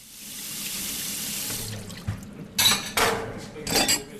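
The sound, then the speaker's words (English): Tap water runs steadily into a sink, then several sharp clinks and splashes as a 55-year-old woman handles and rinses dishes after a meal, with no one talking. “washes the dishes after they eat.”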